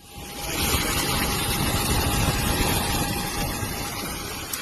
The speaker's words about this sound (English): The sound there, well, it sounded like aircraft, didn't it? But it was also torrential rain and heavy winds hitting Dubai Airport just 2 weeks ago, which I'm sure, as some of you will at least remember, caused an awful lot of disruption